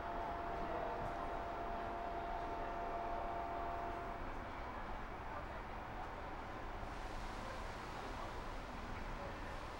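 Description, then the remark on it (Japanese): A Nankai Electric Railway semi-express train rumbles steadily along the rails, a continuous loud roar with a faint high whine from the wheels, with no voices. “皆様、本日も南海電鉄のご利用くださいましてありがとうございます。”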